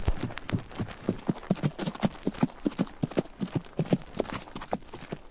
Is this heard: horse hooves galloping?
yes